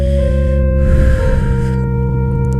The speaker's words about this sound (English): Breathing in.